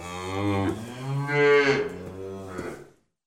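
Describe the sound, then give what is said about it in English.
A cow on a farm lets out a single long, drawn-out moo, loud, rising and falling in pitch for about three seconds before cutting off. No other sounds or voices. “In the morning, I milk the cows.”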